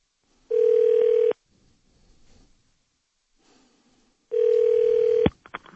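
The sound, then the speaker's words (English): A telephone call to the Subway Fresh Take Hotline ringing through: two long, steady buzzing ring tones separated by a few seconds of quiet, with a few sharp clicks right after the second ring as the line picks up. “Let's call him at work. My buddy Jacko on the Subway Fresh Take Hotline.”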